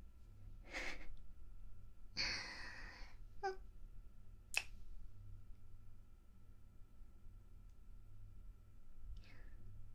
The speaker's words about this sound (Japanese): これ耳の目でしてるぐらいの音のチューだったら大丈夫だよね。